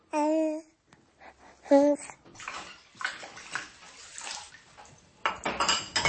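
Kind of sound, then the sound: household object, dishes clattering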